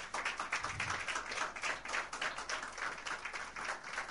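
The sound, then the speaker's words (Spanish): A crowd at a boxing event applauds a boxer introduced for a WBA minimumweight world title fight, with dense overlapping claps forming a continuous crackling wash that holds at an even, moderate level throughout, no voices standing out. “Tendremos a Jessica Bupa, quien pido un fuerte aplauso.”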